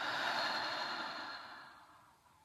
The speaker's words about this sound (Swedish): Ta ett par djupa andetag, först in genom näsan och ut genom munnen.